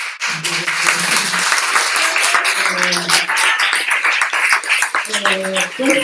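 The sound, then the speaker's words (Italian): A crowd applauds loudly and steadily for about six seconds, an applause for the audience and for Christ: a dense wash of many hands clapping, with some sustained voices ringing out over the clapping at moments. “Questo 2000, quell'applauso per voi e per Cristo.”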